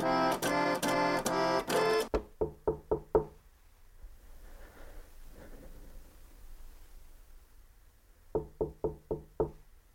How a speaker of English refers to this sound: And as he approaches Coco's building and goes up the stairs, he cannot think. It's all adrenaline now. He grows nervous and knocks on Coco's door.